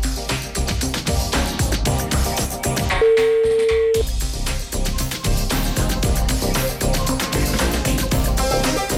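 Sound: telephone ringing tones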